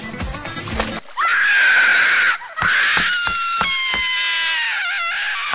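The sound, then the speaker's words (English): A woman screams in pain after being burned by piping hot liquid, loud, in two long, strained cries with a brief gasp between them, wavering and harsh, with no talking alongside. “Even as Goldie screamed, a tear never fell from her eye, for the liquid sealed up shut and she could no longer cry.”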